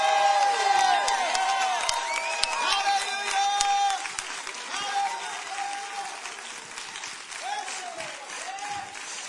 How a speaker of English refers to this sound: Somebody clap your hands and shout yes. Stand up, everybody. Stand up, everybody. Give the Lord a shout offering of praise.